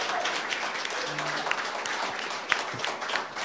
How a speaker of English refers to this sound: And all of these dedicated men and women who put their lives on the line for us. They deserve your applause and they deserve your respect.